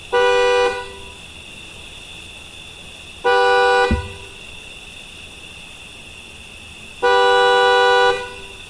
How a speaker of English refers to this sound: And then you must honk your horn 3 times, as if to summon or awaken whatever is in the dark.